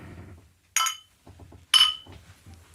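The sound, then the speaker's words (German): Two sharp, bright clinks of glasses touching in a toast, about a second apart, each with a brief ringing tail, with faint low murmuring between them. “Ein letzter Kehr an diesem Jahr dann. Ja, Prost. Prost.”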